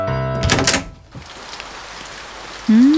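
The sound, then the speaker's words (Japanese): Steady rain hisses across the scene after a brief tonal clatter at the start, with no voices, ending as a short rising electronic tone cuts in over the downpour. “そう、雨ってわけね。”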